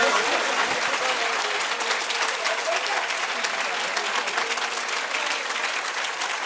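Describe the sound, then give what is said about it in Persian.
A crowd applauds steadily for several seconds, a dense, bright wash of many hands clapping at constant loudness with no pause or clear rhythm. “یه کف بزن من یه آب جوش بخورم، خفه شدم. کف بزن خوشگل.”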